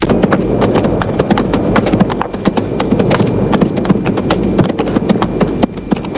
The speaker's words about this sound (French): Elle entend du bruit, un bruit de cheval dans la cour.